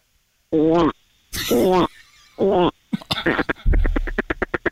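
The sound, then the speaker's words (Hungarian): A voice imitates a frog: three warbling, throaty croaks with wavering pitch, then a fast run of rattling, clicky pulses that speeds up toward the end. “mutasd a békát.”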